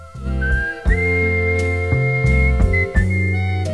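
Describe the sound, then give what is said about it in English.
A man whistles a melody, with clear, sustained notes that glide upward, fairly loud over a steady, rich musical backing. “Yes, the theme this week is, of course, whistling. Oh, here he goes.”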